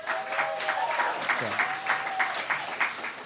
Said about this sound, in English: Thanks to Apache Cafe for having us. A round of applause for Apache Cafe.